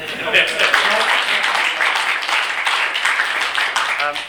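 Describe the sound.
A crowd applauds steadily for several seconds, a dense wash of many hands clapping at an even loudness, with some indistinct voices mixed into the noise.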